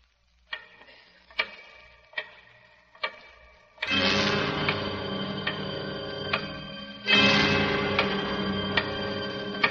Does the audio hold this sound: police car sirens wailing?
no